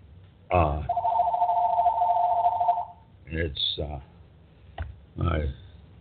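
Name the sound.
telephone ringing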